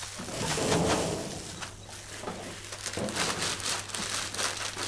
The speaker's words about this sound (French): Là, derrière, il y a un troisième son de plastique, d'accord. On en a trois. On a la guirlande qui crépite.